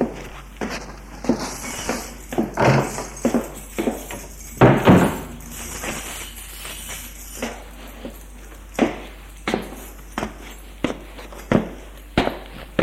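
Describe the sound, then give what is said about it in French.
Footsteps walking toward the exit of a room, a steady series of dull thudding steps with a brief cluster of louder knocks and clatter midway through; no one speaks. “Puis, il se dirige vers la sortie de la pièce.”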